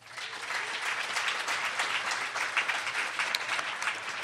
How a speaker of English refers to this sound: But first, I wanted to ask a question of all of you, take a little survey. You can indicate your response with applause. Number one, how many of you work for a station network organization?